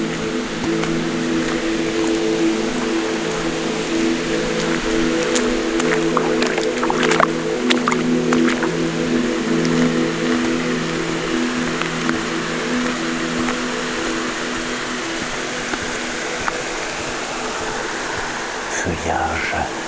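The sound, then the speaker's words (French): A small waterfall at a spring in the misty, humid Mikou state forest pours steadily with a continuous rushing hiss, water flowing without pause for the whole stretch, underlaid by a faint low steady hum. “Petite cascade, source.”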